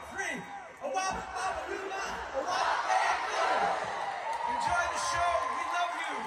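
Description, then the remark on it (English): A large audience shouts a line together on a count of three, prompted by Grease castmates, many voices blending into a loud, sustained roar that holds steady for several seconds, energetic. “fellow Grease castmates, including Michael Tucci, Didi Khan, Kelly Ward, and Barry Pearl, making a couple of movie references before getting some crowd participation.”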